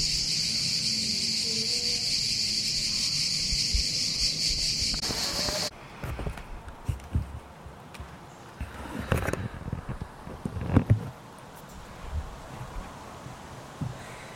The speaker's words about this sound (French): et le chant des cigales.